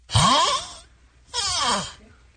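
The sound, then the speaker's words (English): A man snoring in two long, rasping breaths separated by a short pause, each a rough, breathy drone with a groaning tone, fairly loud, with no talking. “That's a man snoring.”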